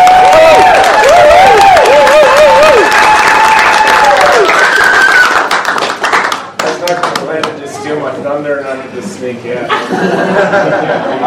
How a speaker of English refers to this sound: A round of applause for Dr. Paul Mason.